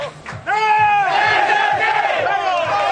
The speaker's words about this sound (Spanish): Otro partido más donde se han agotado ya las localidades para un partidazo de segunda división. El grito de guerra en Girona.